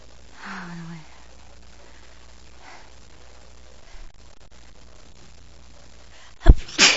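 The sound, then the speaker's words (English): A quiet, near-silent stretch with faint background murmur, then a sudden loud sneeze near the end, a sharp burst followed by a brief second puff. “Well, everybody's sick at work, but I don't feel bad. It's just sneezing.”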